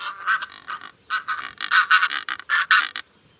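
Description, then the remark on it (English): A Cape Barren goose, a bird from Australia, calls in a rapid series of harsh, nasal grunting honks, delivered in three quick bursts with brief pauses between, fairly loud and with no talking. “This is the Cape Barren goose from Australia.”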